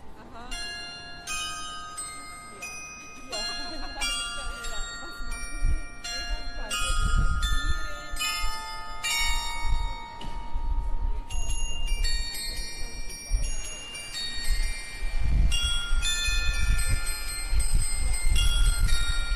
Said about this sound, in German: Das Glockenspiel war ein Geschenk an die Stadt von Armin Kurz. Das war der ehemalige Besitzer des Bijoutiergeschäfts.